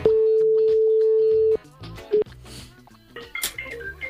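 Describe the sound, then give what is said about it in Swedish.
A phone line: a steady dial tone holds for about a second and a half, then cuts off, followed by a short single beep as a number is dialed, with busier background sound after. “Vi ringer här, ska vi se.”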